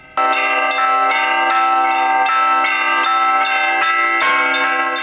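Church bells hung on a temporary belfry ring out in a lively, continuous peal in the khutor of Kurgan, several bells struck in quick succession, their rich overlapping tones sustaining loudly throughout with no voices present.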